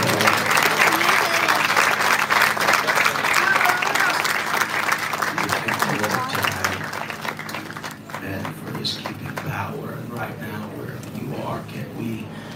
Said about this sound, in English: And we clap our hands one more time.